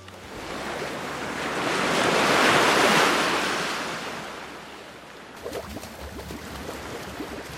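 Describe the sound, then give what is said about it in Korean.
Ocean waves surge and break on a shore in Hainan, China, a broad rushing wash that swells to a peak and recedes, followed by lighter foamy splashing and fizzing as the water pulls back. No voices. “바닷물에 발도 한번 담가보고요.”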